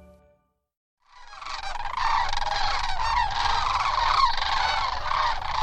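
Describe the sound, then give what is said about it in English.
A huge flock of sandhill cranes, each bird 4 feet tall, calling all at once as they touch down at a wildlife preserve near the San Joaquin River. A dense, continuous chorus of rolling, trumpeting cries that swells in after a second of quiet, with a low rumble of wind beneath. “A huge flock of sandhill cranes, each bird 4 feet tall, is touching down at a wildlife preserve near the San Joaquin River.”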